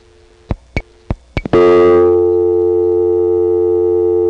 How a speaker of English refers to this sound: Well, there is dial tone crosstalk in the background, but you don't really get the tone until you deposit a dime or two nickels.